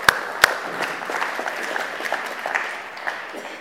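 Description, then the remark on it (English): An audience breaks into applause, a dense patter of many hands clapping steadily for a few seconds, with a couple of sharp louder claps near the start. “Yes, go ahead, let's clap.”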